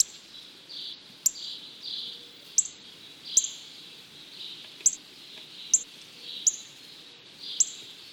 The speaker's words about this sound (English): Cardinals also have a loud, distinctive chip note.